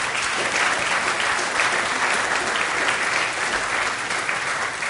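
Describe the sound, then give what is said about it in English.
A group claps together for a birthday in steady, sustained applause, a dense crackle of many hands that stays at an even, fairly loud level throughout with no voices standing out. “today is Dixie's birthday, so let's all give her a round of applause”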